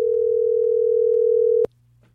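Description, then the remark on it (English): A steady, loud telephone dial tone after the caller hangs up hums continuously for about a second and a half, then cuts off abruptly, leaving near silence with a faint low background hum. “He just hangs up.”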